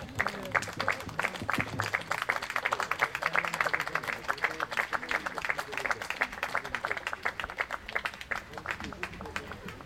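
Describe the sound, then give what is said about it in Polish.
A crowd applauds at a ribbon-cutting ceremony in Poland, dense rapid clapping that holds at an even, fairly loud level throughout, with a faint murmur of voices underneath. “Brawa.”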